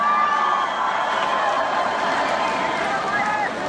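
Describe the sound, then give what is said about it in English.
A crowd at a hip hop show cheers loudly and steadily for the late hip hop pioneer Fife Dawg. It is a dense roar of many voices, with scattered whoops and shouts rising above it, holding at an even level throughout. “So right about now, ain't about no cheering about me.”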